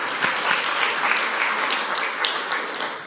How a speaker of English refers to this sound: Amen. One more round of applause for the kids.